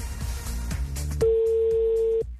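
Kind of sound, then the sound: signal or alarm, telephone ringback tone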